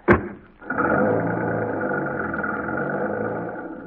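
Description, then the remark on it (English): A sharp thump, like a car door shutting as people get into a car, is followed by the engine starting up and settling into a steady, rumbling drive toward Gigantic Studios, heard alone with no talking. “Come, dear, jump in the car.”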